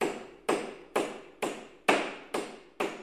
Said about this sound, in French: On eût dit que plusieurs personnes causaient là, derrière la porte, et le bruit du marteau continuait.